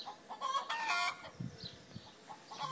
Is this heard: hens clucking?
yes